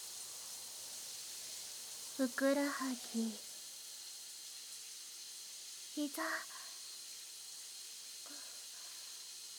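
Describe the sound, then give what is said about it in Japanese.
A shower spray runs over someone's legs in a steady, even hiss throughout, soft and unbroken, while a voice speaks a few brief words over it. “シャワーを足に当ててるだけなのにガクガクしちゃって。”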